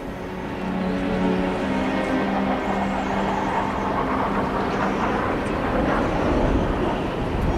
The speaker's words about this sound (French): À travers le sifflement du vent, Andy distingue le vrombissement des moteurs d'un avion allié au-dessus d'eux.